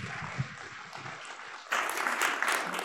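A church audience applauds the pastor as he comes up to deliver God's word, with dense, steady clapping that swells suddenly louder partway through and keeps going as a broad wash of hands.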